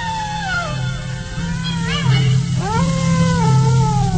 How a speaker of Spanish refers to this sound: Y como si fuera poco, esos impresionantes aullidos que hielan la sangre.